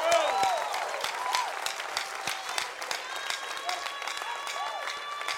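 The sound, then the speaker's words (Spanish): An audience breaks into sustained applause for Jesus, a dense, steady wash of many hands clapping at once, with some voices and cheers mixed into the crowd noise throughout. “Vamos, denle un aplauso a Jesús.”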